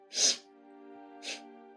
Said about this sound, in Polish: pociąga nosem.